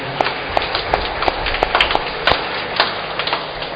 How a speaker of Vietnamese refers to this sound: Một lần nữa chúng ta chúc mừng và cảm ơn họ Vinh Sơn một tràng vỗ tay.